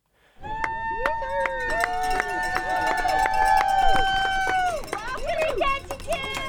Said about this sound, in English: It's a rare sunny evening at a boat harbor in the heart of downtown. A few dozen spectators cheer on the northbound Nutters, a team of four men aboard a yellow, multi-hull sailboat that's gliding toward the dock.